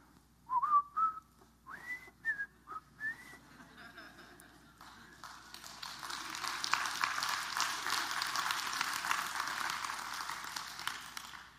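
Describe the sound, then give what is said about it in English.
A short whistled melody in clear, rising and falling phrases plays fairly loud for about four seconds, then gives way to a sustained wash of noise like applause. “Let me just whistle you a song to take you back in time.”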